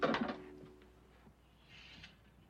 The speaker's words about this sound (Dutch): Hij moet lachen met Joshua en sluit het raam.